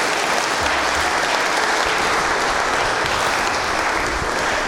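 Sustained applause from an audience, a dense, steady wash of many hands clapping at full volume for several seconds without any talking.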